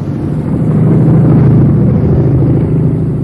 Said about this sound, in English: And now I'm going to light it. The car coming? Are you sure that's enough? Well, it's flaming. It is on fire.